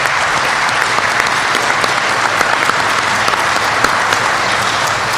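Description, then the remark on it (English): A crowd applauds panelists steadily for about five seconds, a dense, even patter of many hands clapping at a constant loud level with no voices on top. “Before I begin to submit what I think are maybe some concluding remarks, please join me at least in another round of applause for our panelists.”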